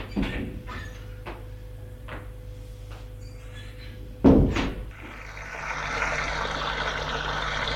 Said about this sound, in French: Elle va à la salle de bain par la porte attenant à sa chambre.